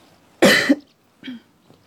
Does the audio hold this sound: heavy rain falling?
no